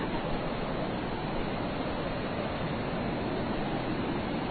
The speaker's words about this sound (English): Alright, if the wind can just please die down for a second, we might be able to hear the sound of the waves. Oh god. I forgot about this. The water sometimes comes way up.